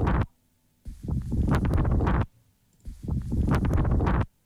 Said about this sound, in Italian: Oh, c'è un po' di vento qua, non riesco a leggere.